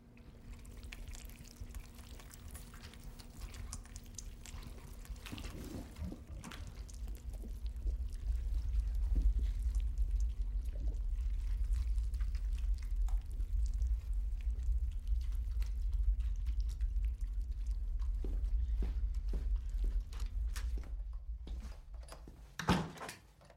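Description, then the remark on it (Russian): Water trickles and runs steadily behind a washing machine, a continuous low rushing with a faint constant hum, scattered small clicks, and a brief louder knock near the end. “Эй, там что-то течет.”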